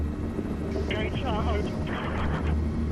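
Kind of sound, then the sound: vehicle, helicopters taking off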